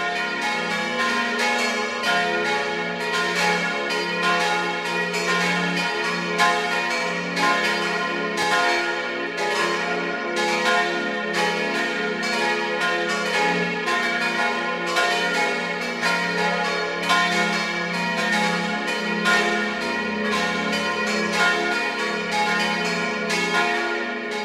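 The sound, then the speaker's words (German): The bells of the Church of St. Ottmar in Gaisau, Vorarlberg, ring at 12 noon, pealing together in a continuous, full wash of overlapping strokes and humming tones, ringing steadily and fairly loud throughout, with no voices. “Sie hören die Glocken der Kirche zum heiligen Ottmar in Gaisau in Vorarlberg.”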